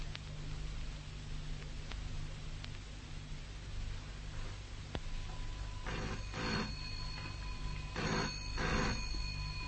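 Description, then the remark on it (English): An old-fashioned telephone bell rings twice in quick double bursts near the end, over a steady low hum and faint background clicks, with no one speaking. “I'll answer it.”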